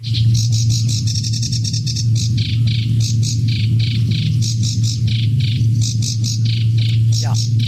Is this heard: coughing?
no